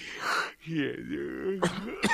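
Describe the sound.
A close voice coughs and clears its throat, with strained, groaning vocal sounds followed by two sharp, harsh coughing bursts near the end.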